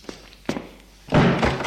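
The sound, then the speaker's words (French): An office door closes as Martin leaves: a couple of light knocks, then a louder, fuller thud and brief rattle as it shuts, with no voices. “Martin sort.”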